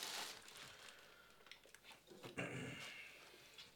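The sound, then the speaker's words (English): Faint shuffling and rustling as an old, sickly dog moves about a kitchen, with a brief high-pitched whine rising out of it partway through, then quieter movement noises. “Because my dog is old and sickly and about to get punched in the face if he doesn't go right out of the kitchen.”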